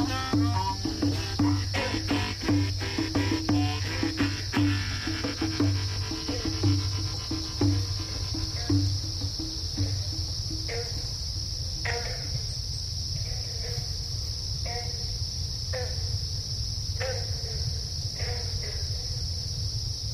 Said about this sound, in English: You know, these crickets I'm hearing here, I'm not sure if that's that permanent hearing damage that I have, where you kind of always hearing the crickets in the background, or I think this is actually in the field, in the swamps there